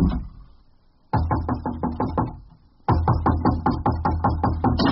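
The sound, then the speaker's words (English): A door bangs shut twice, about two seconds apart, each loud impact followed by a quick rattling shudder that fades away. No one speaks. “You slam the door on me again and I'll shove a fudgy to whale ice cream cake down your stivvies.”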